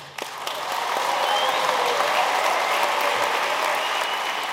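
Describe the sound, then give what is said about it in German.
Delegates at climate negotiations applaud and cheer as a draft text is approved, a dense wash of clapping that holds at full volume from start to finish, with faint cheering mixed into the sustained roar. “Selbst Japan stimmte den knappen, klaren Worten zu, unter dem Jubel der Delegierten.”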